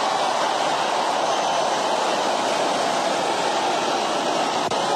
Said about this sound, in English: Man, listen to that crowd roar. Listen to that crowd roar.